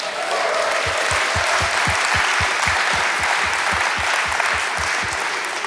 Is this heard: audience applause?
yes